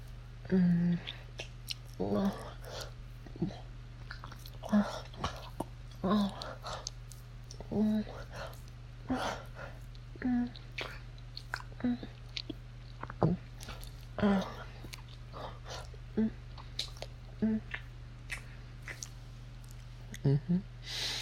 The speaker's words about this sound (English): Do you like hearing me slurp my own cum out of you?